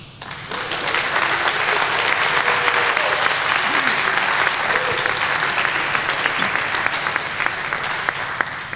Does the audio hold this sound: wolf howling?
no